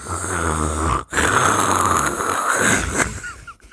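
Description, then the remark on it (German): A voice imitates snoring: two long, loud, rasping breaths with a brief gap between them, raspy and hollow like heavy breathing through a mask. “Du klingst wie ein schlafender Darth Vader.”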